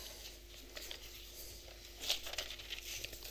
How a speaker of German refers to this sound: Wir können mal ans Ende blättern, zum Kapitel 20.